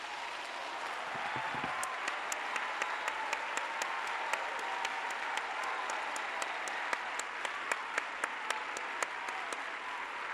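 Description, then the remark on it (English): A standing church audience does a clap offering to praise God, a steady, sustained applause, a dense wash of many hands with sharper individual claps popping out at a quick rhythm, continuing evenly throughout with no voices. “Let's do a clap offering.”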